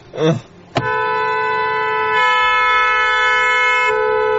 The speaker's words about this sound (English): Jeffy, get off the horn, Jeffy.